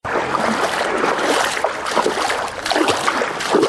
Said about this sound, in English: wades through knee-high water on a flooded street. This is Bor Town's main street, which now looks more like a river.